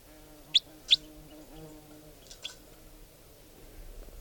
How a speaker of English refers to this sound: Wild type 4 bird came in and now it's giving song. And it's in the trees above here somewhere.